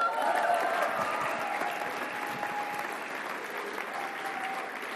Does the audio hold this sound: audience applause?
yes